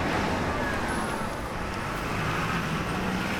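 Dense, continuous roar of city traffic on a busy street in central London, with cars and buses rumbling past at a steady loud level, a thick wash of engine and road noise with no pauses.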